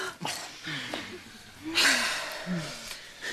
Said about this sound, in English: Now, giving your partner lots of support, let's start with deep diaphragmatic breathing.